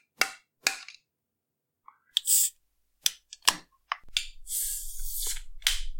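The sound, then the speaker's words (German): Several sharp metallic taps on a shaken drink can, struck to move the carbonation upward, then a click as the tab pops, followed by a steady fizzing hiss of carbonation that continues to the end. “Profi-Tipp, bei der geschüttelten Dose immer mal so dagegen schlagen, dass sich die Kohlensäure nach oben bewegt.”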